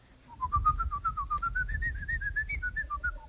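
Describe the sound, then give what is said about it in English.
A person whistles the Hungarian Rhapsody alone as a secret tune, a steady run of clear notes that climbs gradually and then dips, over a low background rumble. “Fool, didn't you notice? I was whistling it in English.”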